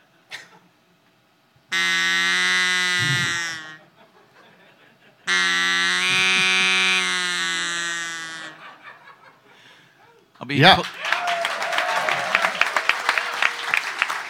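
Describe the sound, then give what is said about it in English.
Two long, buzzy, reedy blasts from a duck call, each about two seconds with a pause between, followed by a burst of applause and laughter. “he gifted me with my own duck call.”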